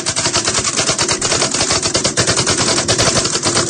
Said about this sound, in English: Let me give you a little example, okay? I mean, I know you can't see, you know, what I'm doing, but you can at least hear, I guess, the way I stroke the keys. Here we go.